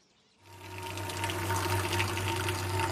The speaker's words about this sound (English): Ames pours milk into a container to make cream.